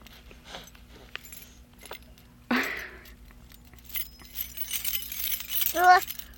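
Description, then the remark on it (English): Keys jangle and clink in a busy burst, with scattered metallic rattles and a brief voice-like sound near the end over a steady low hum. “Keys.”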